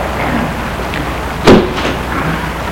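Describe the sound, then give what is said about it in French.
A car door clunks shut midway through as a woman gets out of the car, one short solid thud with a faint follow-up, set against a steady hiss of background noise and no voices. “Elle l'embrasse et sort de voiture.”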